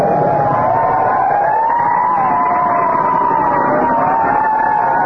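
A fire truck siren wails loudly and steadily, its pitch gliding up and down over a rumbling engine as the truck comes up behind a car and passes it, with no talking.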